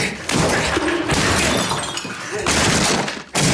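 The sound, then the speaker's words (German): Loud, dense crashing and splintering of wood: a wooden chair smashed against a wall in a cell, in the film Meine fremde Freundin, a sustained burst of breaking impacts with brief pauses, noisy across the whole range. “In seiner Zelle zerschmettert Lehmann einen Holzstuhl an der Wand.”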